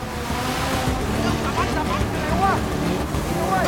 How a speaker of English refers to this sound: Another sleek speedboat joins the chase. The first is sent hurtling into a moored barge. The second draws up on the outside of the rib.